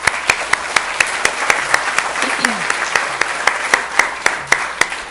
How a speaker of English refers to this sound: So for all those, I would like to give another round of applause.